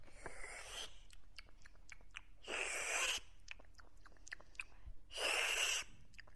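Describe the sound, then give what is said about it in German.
A cook tastes soup from a huge kettle in a kitchen: three loud, airy slurps spaced a couple of seconds apart, each a short hissing suck at the mouth, with quieter small mouth and clicking sounds in between and no talking. “Der Koch stand an einem riesigen Kessel und probierte schlürfend die Suppe, die es mittags für alle Burgbewohner geben sollte.”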